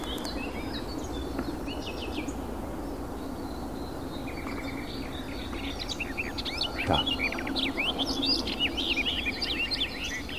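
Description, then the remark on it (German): A melodic bird song in short phrases of two to three seconds, bright whistled and trilled notes repeating over a steady low background hum, clear. “Also es handelt sich ganz klar um ein melodisches Lied mit einer bestimmten Länge, so 2-3 Sekunden.”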